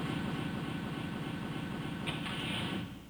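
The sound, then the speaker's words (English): A car engine rumbles outside at night in a steady, low, broad drone for a few seconds, a brief brighter hiss rising over it near the end before the noise drops slightly. “That doesn't sound like his car.”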